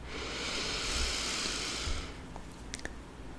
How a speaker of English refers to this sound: Excellent. Good breathing.